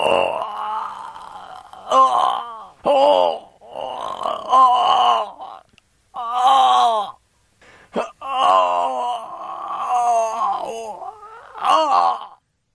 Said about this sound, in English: That was, so it seems like the same guy. The same guy who screamed, the same guy who fell down the well and fell into the chemicals. That was Groaning Man.